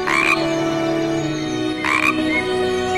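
A bullfrog croaks twice, about two seconds apart, each call a loud raspy burst over a steady, low, resonant drone that hums through the whole recording. No one speaks.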